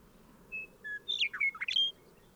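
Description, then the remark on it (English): A bird call opens with two clear, high whistled notes, then breaks into a quick run of bright, warbling chirps that rise and fall in pitch. No voices, just faint background hiss. “This has been Bird 6.”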